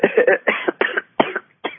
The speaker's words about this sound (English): Nice cough. Are you okay? Yeah.